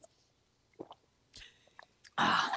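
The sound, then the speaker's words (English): Someone takes a sip of water and swallows, with a few soft wet gulps and mouth clicks, followed by a loud, breathy exhale at the end. No one speaks. “I don't know how much you hear when I drink it.”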